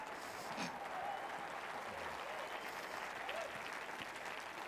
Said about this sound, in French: Si vous travaillez pour Tout-Puissant et Fils, applaudissez-le ce matin.